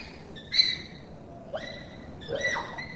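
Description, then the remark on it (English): Bonobo hooting calls: three high, shrill hoots with rising, tonal pitch, spaced about a second apart over a low background hiss, with no talking. “There's a hooting sound.”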